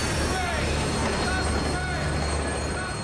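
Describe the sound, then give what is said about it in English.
A train rumbles steadily along the track, with dense, loud roaring noise, faint metallic squealing tones and a low mechanical hum throughout, constant. “A small-time con woman standing on a train platform sees a woman who looks just like her commits suicide by jumping on the track.”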